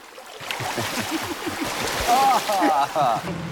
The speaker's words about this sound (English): They splash each other.